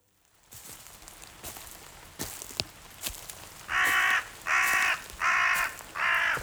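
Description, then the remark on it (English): A crow caws four times in a steady rhythm, each harsh call loud, following a stretch of scattered clicks and light tapping like drips or rustling. “Here, Mr. Crow. I see you. You don't scare me.”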